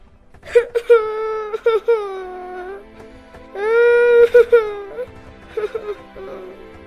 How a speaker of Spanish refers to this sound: El niño choca las manos, pero la niña calla. Y luego rompe a llorar.